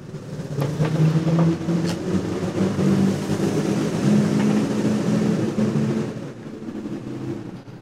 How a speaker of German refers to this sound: So, bei uns fahren auch Züge, wie man hört.